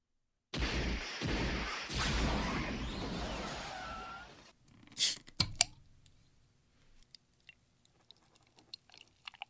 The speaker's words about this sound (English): Let's enjoy the sound of opening and pouring a fresh beer, shall we?